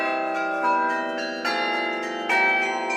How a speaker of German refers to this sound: Es kommt nur darauf an, dass die Glocke möglichst kurz angeschlagen wird. Dadurch kriegt sie einen sehr brillanten Klang.